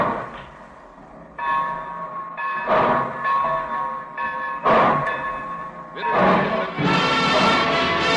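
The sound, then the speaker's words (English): A train sets off, with sustained whistle-like tones ringing over slow, heavy bursts of steam that come closer together and build into a fuller, louder rumble by the end. “Well, it looks as though we're ready to pull out.”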